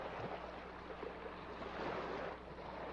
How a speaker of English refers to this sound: See yourself closing your eyes, listening to the pleasant crash of the surf, a pleasant and safe sound.